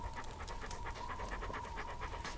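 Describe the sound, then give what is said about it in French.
Junon, a female dog, pants rapidly and steadily, quick rhythmic breaths repeating throughout with no voices present. “Viens là, Junon. C'est ça. Là. Tu me reconnais, hein ? La brave chienne.”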